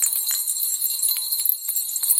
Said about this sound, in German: Hören Sie es auch schon? Es klingeln Glöckchen überall. Sie laden ein, im Advent ein bisschen besinnlicher zu sein.